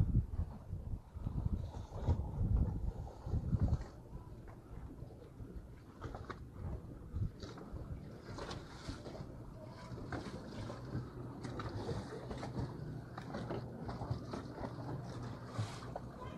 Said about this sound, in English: Our small boat.